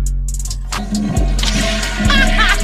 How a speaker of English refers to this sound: Yes! Well, that's pretty badass. With the flush, how cool.